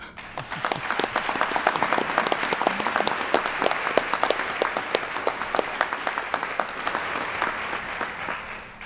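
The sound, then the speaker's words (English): A gathering of new students, their families and friends, faculty and staff applauding steadily for several seconds as a welcome, many overlapping hand claps forming a dense, sustained wash of sound that stays fairly even before fading at the end. “We welcome each one of you, and as an expression of emerging community, let's welcome one another with applause.”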